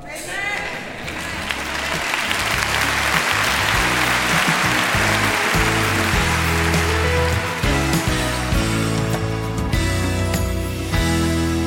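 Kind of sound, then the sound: crowd, thunderous audience applause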